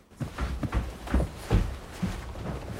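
Hurried, heavy footsteps of two people racing upstairs after hearing a thud: five or six dull impacts climbing at an uneven rushing pace, with no voices.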